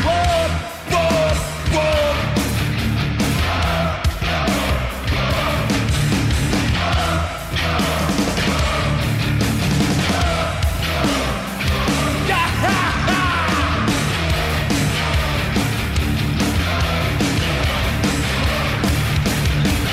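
A loud live heavy metal concert: dense, distorted guitars and pounding drums fill the whole clip, with a crowd yelling and bellowing along throughout at a constant, high level.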